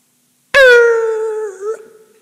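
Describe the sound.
A voice imitates screeching brakes with a single sustained, harmonic squeal lasting over a second, loud at the onset, holding a steady pitch before wavering and trailing off.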